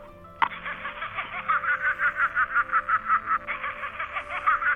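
A kookaburra in Australia, heard at 5 in the morning, gives its raucous laughing call, a rapid rhythmic cackle of repeated bursts that rises and continues steadily for several seconds, with a steady low hum underneath and no talking.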